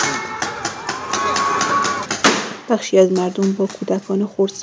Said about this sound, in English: She sent us videos of these clashes. A warning to listeners, this report includes sounds of gunfire.